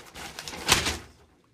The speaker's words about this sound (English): Let me open up the old paper here. Let's get a good sound effect.